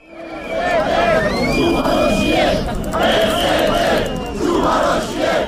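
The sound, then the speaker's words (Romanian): A protest crowd of about 50,000 people in Bucharest, Romania, marching from University Square, shouts and chants together in a loud, sustained roar, voices rising in waves with a few higher whistles or shrill cries cutting through the din. “În București, estimările arată că 50.000 de oameni au ieșit să-și strige nemulțumirile, au plecat în marș de la Piața Universității spre Ministerul Justiției, spre sediul CNA și apoi spre sediul guvernului.”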